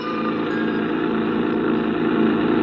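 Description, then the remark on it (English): A creaky old rented truck rumbles steadily as it drives toward Barnesboro, a dense, continuous engine drone that stays loud throughout, with no voices. “I rented a creaky old truck and headed for Barnesboro.”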